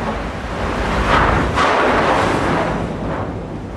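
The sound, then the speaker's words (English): Chunks of ice and slush bang against the hull of a U.S. Coast Guard polar icebreaker churning through ice in the Arctic, over a steady, loud churning rumble, with a few heavier booming knocks standing out. No one speaks. “Coast Guard polar icebreaker churning through ice in the Arctic, slush and large chunks of ice left in the trail bang up against the hull of the ship.”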